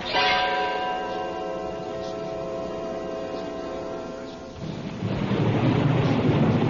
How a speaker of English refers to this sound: Oh, we're going to have a storm.